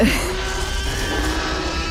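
Baby elephant calls, of the kind used to build the T-Rex roar in Jurassic Park: a loud, continuous wavering cry with a steady tonal pitch, bleat-like and slightly nasal, held for about two seconds over a rough low rumble.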